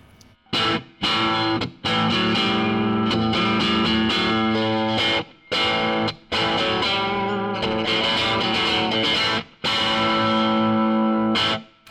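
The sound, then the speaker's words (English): Loud electric guitar plays about five distorted chordal bursts separated by brief pauses, its tone shifting slightly as it switches between bridge and neck pickups and coil-tapped settings; no one speaks. “Then the bridge, the neck, sorry. And let's tap them.”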